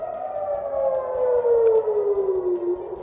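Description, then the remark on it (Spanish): Air raid sirens wail steadily in Jerusalem in the early morning during Israel's large-scale offensive against Iran, a loud sustained tone slowly falling in pitch over a low rumbling background, with no voices. “Así sonaban esta madrugada las sirenas en Jerusalén mientras Israel realizaba una ofensiva a gran escala contra Irán.”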